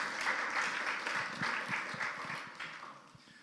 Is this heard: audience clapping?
yes